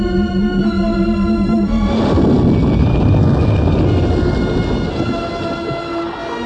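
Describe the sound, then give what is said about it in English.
A steady, droning engine whine gives way to a loud, turbulent roar and rumble as a spaceship orbiting a green water world suffers an engine malfunction and is forced to ditch in the sea, before the noise slowly eases off. No voices. “Orbiting above the emerald green water world of Sakusha, the Hyperion suddenly develops an engine malfunction and is forced to ditch in the sea.”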